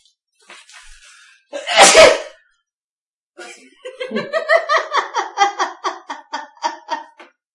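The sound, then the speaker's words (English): A short breathy intake followed by one loud, explosive sneeze, then a pause before a burst of rhythmic, pulsing laughter. “I'm sorry, I find your sneeze hilarious.”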